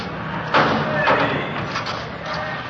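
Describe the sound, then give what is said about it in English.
A heavy jail door at the main jail slams shut with a loud metallic bang, followed about half a second later by a second clank as it locks, with faint voices murmuring in the background. “They want to lock that door.”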